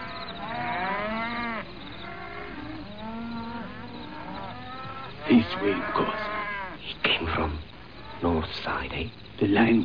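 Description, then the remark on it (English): Cattle low repeatedly in a kraal, long drawn-out moos overlapping from several animals, with insects chirping steadily underneath and no voices. “Listen to the cattle, Nkosi. They know the line is near.”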